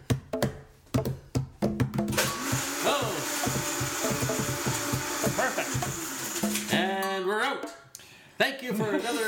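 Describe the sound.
A few sharp clunks, then a blender blitzing a tiki cocktail roars loud for about five seconds with a steady grinding whir before cutting off, and people start talking.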